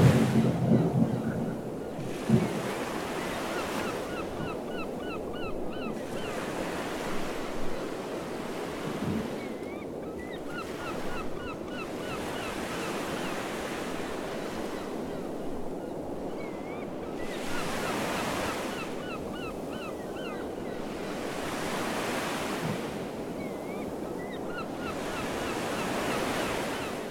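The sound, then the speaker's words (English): Steady ocean surf washes onto a soft, sandy beach in broad, rushing swells that rise and fall every few seconds, with faint high seagull chirping layered above the continuous roar. “You begin to walk along the soft, sandy beach, walking slowly, taking in the smell of the salty air, listening to the sounds of the seagulls and the gently crashing waves,”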